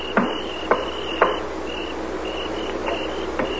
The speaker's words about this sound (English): Rap on the side of that wagon 3 times.